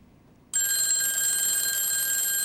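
After a moment of near silence, a telephone abruptly starts ringing, a loud, steady electronic ring that holds on without a break. No one speaks.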